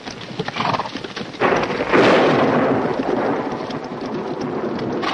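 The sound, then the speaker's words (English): A deep, rolling rumble of thunder from leaden storm clouds with forked lightning swells up after a second or two and lingers. It is mixed with the sounds of horses as soldiers dismount and walk them, and a steady wash like rain, with no talking. “From the leaden storm clouds behind them, forked bolts of lightning reach toward the valley.”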